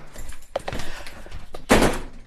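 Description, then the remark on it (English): A shut door is opened: a sharp click of the latch, then a louder, brief rushing sweep as it swings, with no voices. “Ah, maybe behind this door.”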